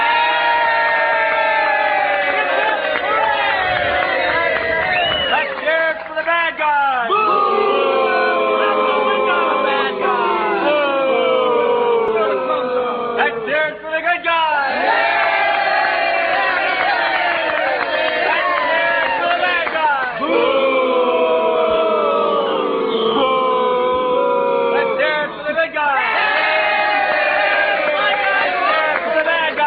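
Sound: crowd cheering and whooping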